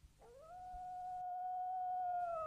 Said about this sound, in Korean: 사이섬 쪽에서 승냥이가 울어댔다. 그날 밤에도 승냥이가 울었지.